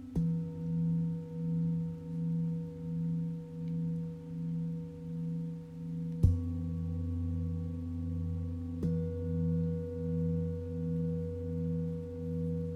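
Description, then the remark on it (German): A small singing bowl is struck three times, each strike adding to a long, humming, wavering ring with steady layered overtones. The tone sustains throughout, with no voices. “Mit dem Klang meiner kleinen Zenzschale kommst du ins Hier und Jetzt zurück.”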